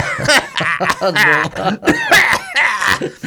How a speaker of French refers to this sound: Vous la connaissez, tout le monde a la ref de la campagne de la Sécu contre les antibiotiques, là. Le mec qui tousse, là.